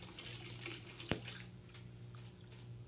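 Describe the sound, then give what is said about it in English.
Running bathtub tap water hisses softly, then a sharp click as the tap is turned off, followed by a few faint drips and trickles. No one speaks. “I'm turning off the water.”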